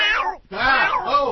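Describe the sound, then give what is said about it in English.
Two drawn-out, wavering meows, voiced by people imitating creepy pet cemetery cats in an eerie style, loud, with a brief gap between them. “That's we did creepy pet cemetery cats.”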